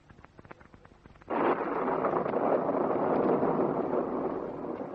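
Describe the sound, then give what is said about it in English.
A sudden loud rush of storm wind bursts in after a quiet stretch of faint clicks, then roars steadily as a broad, noisy howl that swells and slowly eases. “Oh, here comes the storm.”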